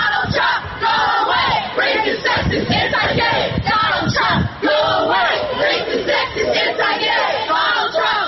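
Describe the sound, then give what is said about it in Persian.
A large crowd of protesters shouts at a street demonstration in a US city (Miami, Atlanta, Philadelphia, New York, San Francisco or Portland, Oregon) against Donald Trump's statements about immigrants, Muslims and women, many voices overlapping in loud, continuous yelling with rising and falling cries for the full eight seconds. “اعتراض کننده ها در شهرهای میامی، اتلانتا، فلادلفیا، نیویورک، سان فرانسیسکو، پورتلند و اورگان در مورد اظهارات دونالد ترامپ در ارتباط به مهاجرین، مسلمانان و زنان مخالفت نشان داده و خشم خود را ابراز کردند.”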